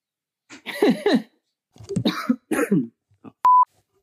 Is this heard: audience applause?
no